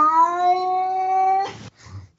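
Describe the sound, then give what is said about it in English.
A person imitates a cat with one long, drawn-out meow held at a steady pitch for over a second, fairly loud, then a brief breathy burst and a faint trailing sound. “So that makes it a little tougher to use because you hear my laugh more than your meow.”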